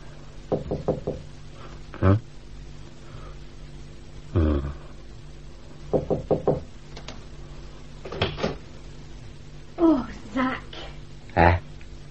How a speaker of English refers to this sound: And if you please, I knocked and nobody came.